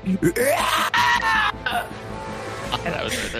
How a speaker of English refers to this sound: And it's at that time you guys hear an unworldly shriek.